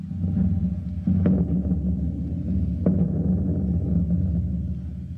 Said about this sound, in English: On the Star Spangled Theater last week, an effect was used which in itself is very simple, but it is used on so many different programs we thought you'd like to know how it's done. I refer to the noise of thunder in the distance.